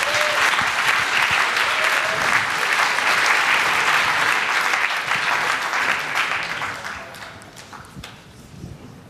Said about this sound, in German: Einen herzlichen Applaus für die beiden.